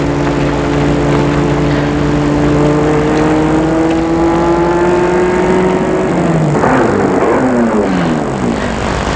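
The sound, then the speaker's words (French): A white convertible car's engine hums loudly and steadily, then its pitch drops and wavers as the car slows down and pulls to a stop. No voices. “Arrive une voiture blanche décapotable avec au volant Gilles.”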